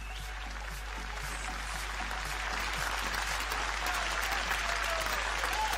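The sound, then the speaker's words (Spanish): An audience claps steadily to welcome a guest onto the show, a dense wash of many hands that swells slightly and holds strong for several seconds with no voices on top. “Así que lo vamos a recibir con un fuerte y un lindo aplauso.”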